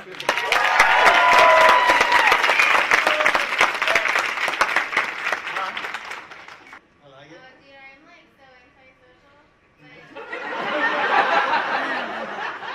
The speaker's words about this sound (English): It's got to be up to the crowd. There'll be the cheers, and then there'll be one person that sits down, and the other two go for the goal.